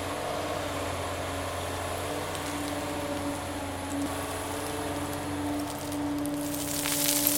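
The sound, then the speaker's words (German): A heavy excavator engine drones steadily at a gravel pit in the Main valley as it digs out raw gravel and loads it onto a dumper, a constant low rumble with a humming tone, swelling slightly near the end with added hiss. No one speaks. “Der Bagger da drüben holt ihn heraus und lädt ihn auf den Dumper.”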